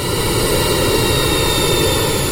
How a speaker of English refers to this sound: Whereas a propeller is spinning very quickly and it's a little bit noisier. This kind of sounds like a Cessna. I used to fly Cessnas back a long time ago. That's what you're hearing as the plane is going by.